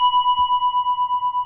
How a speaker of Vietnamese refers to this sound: Cho nên trước khi mình thỉnh vang lên một tiếng thì mình phải thức cái chuông để nó rung chuyển. Một cái loại kim khí này nó có cái chuyển động, để khi đó mình thỉnh một tiếng mạnh nó không bể. Đó, mình thỉnh.